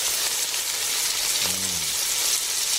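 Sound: food sizzling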